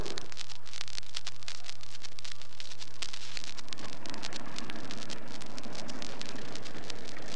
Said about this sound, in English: It is now 5:09 in Trinidad, and as I'm speaking to you, the presidential plane, Independence, the beautiful, big, sleek DC-6 is now taxiing up the runway in front of me. You'll hear the engines as they are revved up before they cut out.